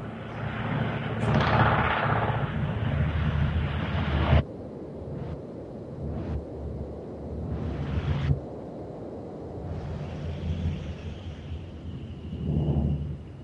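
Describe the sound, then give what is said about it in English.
Helicopters flying overhead make a deep, continuous rumbling roar that swells and fades over several seconds, with a few brief sharper bursts and no one speaking. “Apologize, we've got some helicopters flying overhead.”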